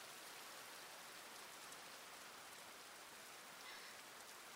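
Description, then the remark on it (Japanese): Steady, heavy rain pours down continuously, a dense hiss of drops spread evenly across the whole stretch with no pauses and no voices. “ひどい雨ですわね。”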